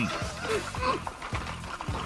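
A small horse whinnies, a thin, wavering call followed by rhythmic breathy snorts and huffs over a steady background hum.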